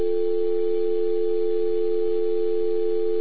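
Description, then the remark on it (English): A steady, unbroken telephone dial tone after a dropped phone call hums at an even volume for the whole stretch, clear, with no voices or other sounds around it. “Okay, I think I flashed too soon and lost it.”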